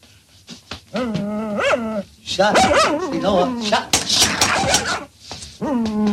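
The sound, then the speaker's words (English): A dog lets out high, wavering whimpers, then a burst of sharp, excited barks and yelps before whining again, loud and continuous across the few seconds. “Harold puts a rubber band over the dog's mouth.”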